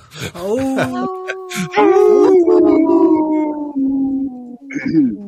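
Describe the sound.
A soul singer imitates a wolf on Native Roots Radio, giving a few short yips before a loud, long drawn-out howl that slowly sinks in pitch, then a brief final howl, clear.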